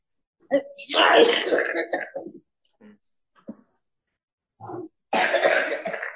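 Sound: coughing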